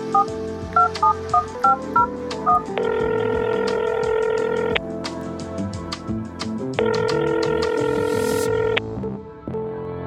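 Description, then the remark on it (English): A quick series of about nine touch-tone beeps as a phone number is dialed, followed by two long, steady ringing tones separated by a pause, with no voices. “He dials the number.”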